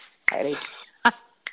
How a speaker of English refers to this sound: Yeah. Give a snap.